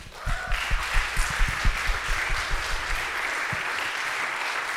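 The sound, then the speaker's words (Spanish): An audience breaks into applause for all the women, dense clapping with some sharper individual claps near the start, then settling into a steady sustained roar of hands for several seconds. “Y este aplauso es para todas las mujeres, no solamente para las mamis, ¿eh?”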